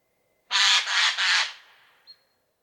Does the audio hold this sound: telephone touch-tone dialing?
no